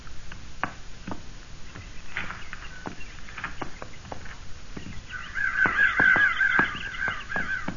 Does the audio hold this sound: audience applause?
no